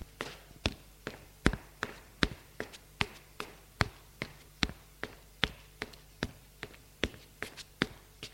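Footsteps climbing the stairs of a small apartment building up to the top floor, the sixth: a steady run of about twenty crisp, hard steps in an even rhythm, a little over two per second, with no voices.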